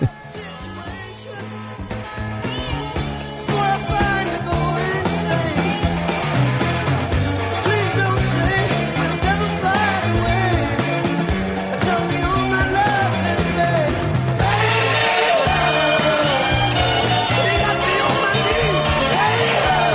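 A loud, dense rock song plays throughout, with driving guitars, a steady bassline and full drums; the music swells even brighter and heavier about three-quarters of the way through.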